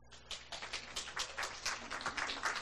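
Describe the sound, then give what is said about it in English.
An audience breaks into steady applause as a speaker is introduced, many overlapping hand claps forming a dense, crackling patter that stays fairly even for a few seconds with no voices. “Hold your applause to the end.”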